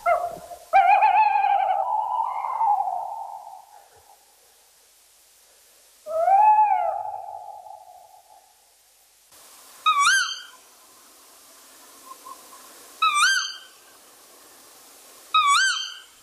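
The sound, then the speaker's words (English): Tawny owl calling in a still night in Thetford Forest: two long, wavering hoots from the male, then three sharp, shrill kiwik contact calls from the female, spaced a few seconds apart, clear over quiet surroundings. “In Thetford Forest, Thetford Chase, we've got some rather really eerie, nice recordings of the tawny owl at night and the call.”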